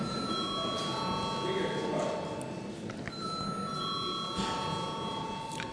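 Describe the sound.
The Saeima (Latvian parliament) chamber bell rings continuously and steadily for several seconds before a first-reading vote on a bill, its bright tones sustained over a low murmur of voices.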